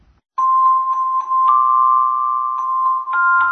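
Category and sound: signal or alarm, school bell ringing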